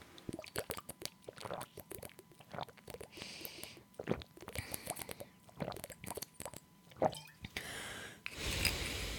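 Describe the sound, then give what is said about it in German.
Someone takes a sip of a drink, with soft wet slurps, swallows and small mouth clicks, ending in a brief louder rush of noise. No one speaks. “Gut, ich trinke mal einen Schluck.”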